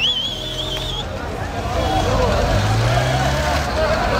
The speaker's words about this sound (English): This is the moment where everyone here says that the GHF site is open, and now it's 1:30 after midnight. So all of the cars turns on the engine and they started to race each other, motorcycles.